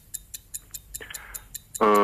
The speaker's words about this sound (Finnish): Aihealue on elokuvat ja kello lähtee täältä käyntiin.